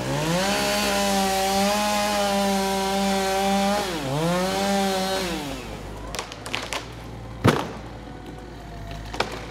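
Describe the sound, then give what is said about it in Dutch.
A chainsaw drones loudly and steadily as it cuts a chunk out of a diseased chestnut tree being felled in Groningen, its engine pitch sagging briefly as it bites into wood, then it cuts out, leaving scattered creaks, cracks and one sharp thud. “En met een kettingzaag wordt een hap uit de zieke boom gehaald.”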